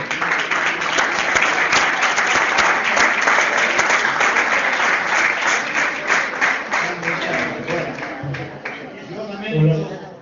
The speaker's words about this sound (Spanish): que me dicen un aplauso para ellos dos